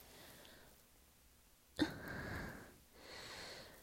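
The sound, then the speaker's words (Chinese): Muffled heavy breathing from inside a wardrobe: after a quiet stretch, a sudden sharp breath is followed by a long, rough exhale, then another slower breath, with no talking. “衣柜里传来一声沉闷的呼吸声，离得最近的小哥顿时吓了一跳。”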